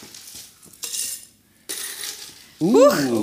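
dice being rolled

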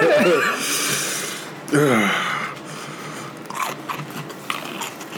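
chewing crunchy food

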